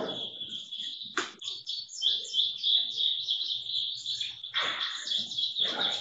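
Birds chirp and call continuously, a dense, bright chorus of high tweets with a few louder, sharper bursts standing out. Nobody speaks.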